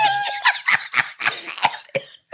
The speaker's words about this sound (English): Not the smoker's cough.